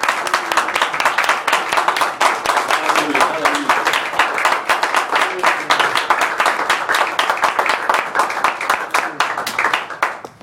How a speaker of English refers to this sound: Let's give one more hand clap of praise.